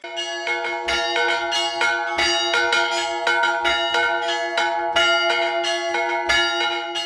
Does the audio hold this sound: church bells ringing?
yes